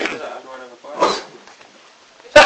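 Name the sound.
sneeze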